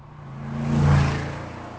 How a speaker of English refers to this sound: He can hear a car.